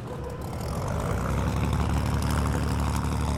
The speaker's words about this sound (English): Once the formation's ready to start, I will be pressing the start buttons, which you can see just to the right-hand side underneath the instrument panel, flicking on the magnetos, and then I'll be waiting for the engine to start.